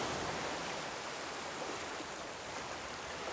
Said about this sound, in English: And when you're safely back on the shore, look back again at the sparkling sea. Listen to the waves. Thank the sea.